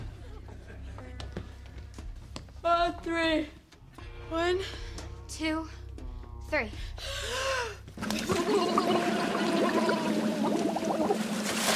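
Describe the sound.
Sharp gasps and strained voices build up, then a sudden loud rush of splashing water takes over and churns steadily until the end, as heads plunge into tubs of ice water.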